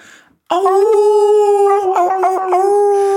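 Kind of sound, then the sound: sound effect, wolf howling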